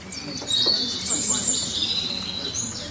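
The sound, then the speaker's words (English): Birds chirp steadily for the whole stretch, a chorus of high, thin tweets and trills layered over a soft, low ambient hum with no talking. “I'm not talking about the birds chirping.”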